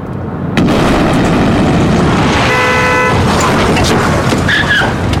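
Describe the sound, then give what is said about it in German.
A sudden loud explosion from a film scene of an Islamist suicide bombing on a NATO facility in Brussels bursts in after a moment of quiet, then a heavy roaring rumble continues throughout, with a short car horn blaring briefly in the middle. “Eine Explosion. Islamisten verüben einen Selbstmordanschlag auf eine Einrichtung der NATO in Brüssel.”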